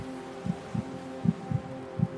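A heartbeat sound effect: low, muffled thumps come in double-beat pairs at a steady pace, about five beats in two seconds, over a faint, constant hum.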